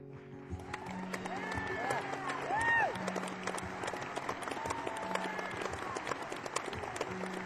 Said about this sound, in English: Thank you very much for your listening ears and generous applause. I am grateful to you.